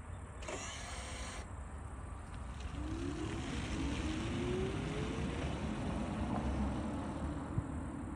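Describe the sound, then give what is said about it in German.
A short electric whir of a parking brake motor releasing at the start, then a low, steady drone as a quiet car pulls away with a faint rising tone, no voices. “Wir haben gerade schon gesagt, also wenn der jetzt nicht die elektrische Parkbremse hätte, dann müsste man sich wirklich konzentrieren, um zu hören, dass wir da losgefahren sind, ne?”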